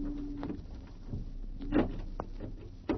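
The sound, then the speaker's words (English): A heavy, stuck door of an old warehouse rattles and scrapes as it is forced open, with a few sharp knocks and creaks scattered across a few seconds, fairly quiet, no voices. “Here's the door, Doctor. Well, how are we going to get in? It's locked.”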